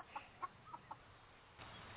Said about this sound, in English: It's morning and the chickens are hungry. Let's head over to the hen house.